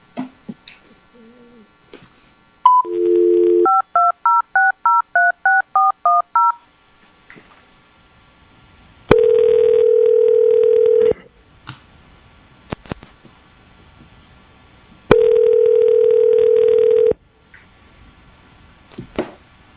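A phone dial tone, then a quick run of about ten touch-tone beeps as a number is keyed, followed by two long ringback tones spaced several seconds apart, clear, with no talking; a call being placed so an applicant can take part in a board hearing by phone.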